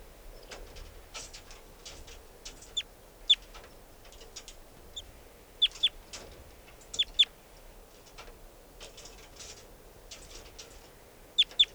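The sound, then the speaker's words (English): A wild bird sitting on top of a cage chitters in quick, high, scratchy bursts, repeated irregularly over a low steady background hum, with a few sharper, louder chirps standing out. “And chitter by the wild bird.”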